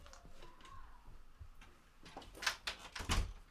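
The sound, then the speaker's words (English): A door is handled and pushed shut, with a run of clicks and knocks building to a couple of sharper thuds near the end, and no one speaking. “I'm going to shut the door.”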